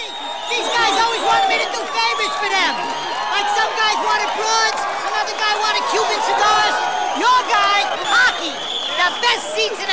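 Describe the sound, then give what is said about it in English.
A large ice hockey arena crowd keeps up a steady, loud roar of overlapping voices during a match, with scattered whoops and cheers rising out of the din for the whole stretch. “At an ice hockey match, two helmeted and padded players slam against a tall Perspex barrier.”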